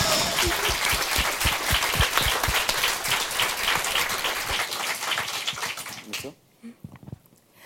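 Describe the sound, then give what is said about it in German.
A project group applauds itself with dense, steady clapping for about six seconds, loud and continuous, before it quickly dies away into a few scattered claps and quiet. “Nochmal ein Applaus für die Gruppe erstmal, also für uns.”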